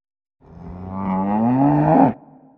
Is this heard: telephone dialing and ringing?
no